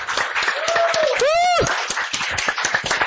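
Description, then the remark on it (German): An audience at an Easter service applauds for Jesus, clapping steadily and loudly for the full three seconds, dense overlapping hand claps, while a sliding, rising-then-falling whoop or cheer rises above the applause midway through. “Поаплодируйте ему с ним. Applaus für Jesus!”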